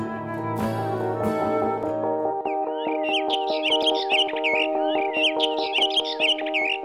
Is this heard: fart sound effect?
no